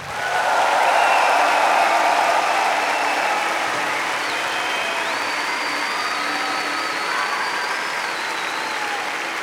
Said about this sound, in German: Und dann ein Applaus für alle, die hier organisatorisch Herzblut vergossen haben, seit weit über anderthalb Jahren hier mit den Gedanken drin stecken. Ein Applaus für unser Management.